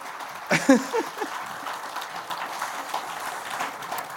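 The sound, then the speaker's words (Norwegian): A small crowd at a library applauds steadily for a few seconds, the clapping dense and moderately loud, with a brief excited voice whooping near the start. “Ja, det er applaus, ass.”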